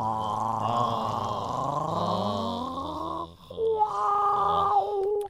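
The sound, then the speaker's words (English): A person gargles spit in the back of the throat, making a loud, continuous voiced gurgle for about five seconds. The pitch slides upward, then jumps to a higher, steadier tone. “It's just gargling. I'm gargling my own spit.”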